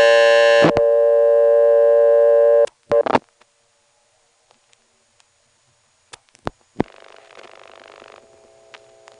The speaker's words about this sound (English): And that's the class of service tone which the operator will hear shortly after she answers.